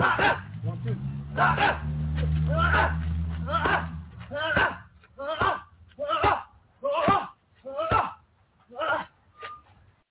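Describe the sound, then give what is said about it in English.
A steady series of about a dozen sharp punches from a boxer's pad work smacking into boxing focus pads, evenly spaced, with a low droning hum beneath the first few strikes. “Look at the pad work.”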